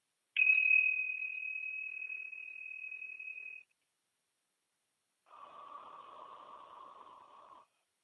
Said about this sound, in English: I'm going to go ahead and ring the tincture bells to clear out any lower vibrations and create a pure, sacred space for our channeling today.